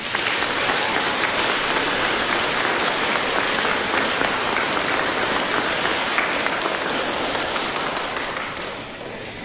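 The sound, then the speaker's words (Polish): Sustained, dense applause from an audience of nuns, carers, parents, grandparents and young children gathered at a holy place, a steady wash of many hands clapping at once that stays loud throughout and eases off slightly at the very end. No one speaks over it. “Gorące brawa!”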